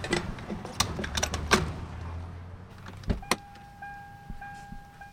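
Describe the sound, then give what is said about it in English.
Clicks and rustling of someone getting back into a car after filling it with gasoline, a low idling hum, then a solid door thump followed by a steady electronic dashboard chime, fairly quiet, with no talking. “All right, well, let's get back in and get on our way.”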